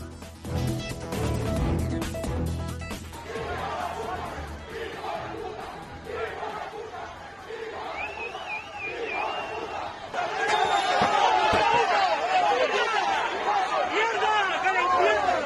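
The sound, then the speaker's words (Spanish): A crowd in Ceuta shouts insults at Sánchez on his arrival, many voices overlapping in loud, sustained hostile yelling that swells louder in the second half, with chanting-like bursts and babble throughout. “Sánchez ha sido recibido con insultos y gritos.”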